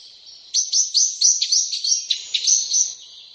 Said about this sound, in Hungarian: de kiad egészen más hívóhangokat is, ilyen finom, fütyülő jellegű hangja is van a fekete rigónak.